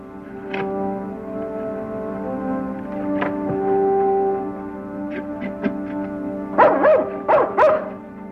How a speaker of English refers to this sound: All right, boy. All right. It's a good dog.